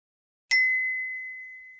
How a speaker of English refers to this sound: 第三至四小题，答题完毕，请等待滴的信号，进入下一段对话。